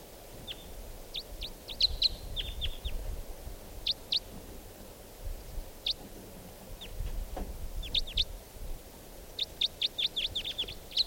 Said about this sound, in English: I hear now some type 4 birds coming in. Here's that one lone bird. And a type 4 bird has just joined with it.